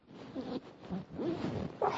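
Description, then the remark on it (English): A coat zipper on a coat with two zips rasps as it is done up, in a few uneven, effortful pulls over about two seconds, with short pauses between strokes and some faint rustling of fabric. “This coat, for whatever reason, has two zips, so it's doubly difficult.”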